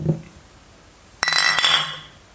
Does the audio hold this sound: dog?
no